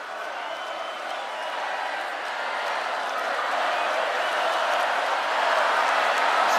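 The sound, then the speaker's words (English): A large crowd sings happy birthday together, a dense wash of many voices that stays loud and steady and swells slightly toward the end. “happy birthday to you. Happy birthday to you.”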